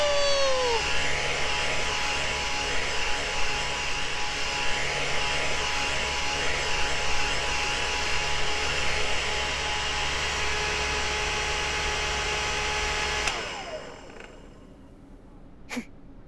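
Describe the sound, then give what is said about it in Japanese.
A hair dryer drying hair blows in a steady, loud whooshing roar with a humming motor tone for about thirteen seconds, then shuts off and winds down, followed by quiet and a single small click. “ドライヤービームは怪獣お客様に発射することで髪が乾くのだ。”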